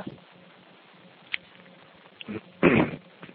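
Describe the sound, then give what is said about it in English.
A person coughs: a short, muffled cough followed by a louder, harsher one, with no talking. “excuse me, I don't know that I'm coughing today.”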